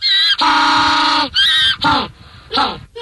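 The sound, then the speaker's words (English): A penguin on a beach gives its mating call: loud, harsh donkey-like braying, with one long sustained honk followed by several shorter rising and falling brays, with no voices. “But I had no idea that a penguin's mating call, well, sounds like a donkey.”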